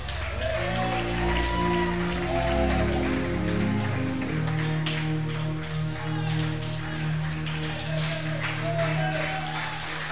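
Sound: audience clapping hands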